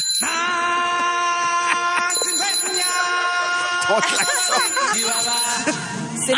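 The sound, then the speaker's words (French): A bicycle horn on a bike used for making deliveries honks in a bright, buzzy, harmonic tone, sounding almost continuously for several seconds, with quick wobbling, squeaky pitch swoops toward the end. “C'est la un klaxon de Bessic, là, c'est pas mal moins intimidant qu'un klaxon de troc.”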